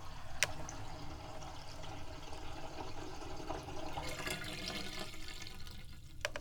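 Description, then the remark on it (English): Water draining from a bathtub with a steady gurgle and swirl as the last half inch of water spins in a vortex down the drain, broken by a couple of sharp sucking pops as the last of it slips away. “Whoa, there's only about a half an inch of water left, and there's a vortex spinning down the drain.”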